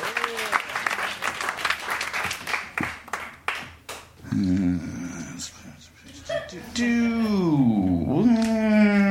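A round of applause from an audience lasts about four seconds and thins out. It gives way to sustained, pitch-sliding whining and howl-like vocal sounds.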